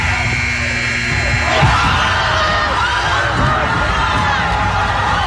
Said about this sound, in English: It sailed over half the court and sunk in just as the buzzer sounded, sending the entire gym crazy.